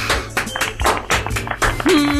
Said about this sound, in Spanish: Bien. Volvemos. Ahí, público. Sí, aplausos. Sí, se prende la luz.